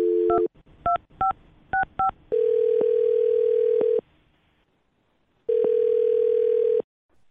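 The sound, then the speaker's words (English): A telephone line hums with a steady tone at the start, then a quick run of five sharp keypad beeps, followed by two long, loud ringback tones separated by a pause, with no voices. “Well, I'm going to dial this phone up right now and see if we can figure it out for you, okay?”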